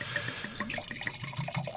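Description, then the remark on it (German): Red wine glugs steadily from a bottle into a glass, a continuous gurgling pour with rising bubbly tones and no voices over it. “Darf ich? Ja, gieß mal ein.”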